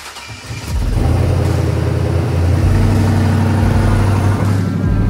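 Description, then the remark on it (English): A big monster truck engine cranks and catches within the first second, then roars on at a loud, deep rumble, its pitch rising and dipping as it revs. No one speaks. “I literally think the only thing that's gonna work is the monster truck.”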